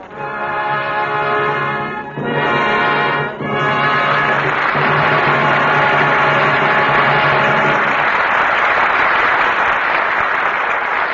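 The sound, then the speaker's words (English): A crowd bursts into loud, sustained applause for a curtain call of Edward G. Robinson, Marlene Dietrich and George Raft, with a held brassy musical chord sounding over the first eight seconds before the clapping carries on alone. “Your applause is a command.”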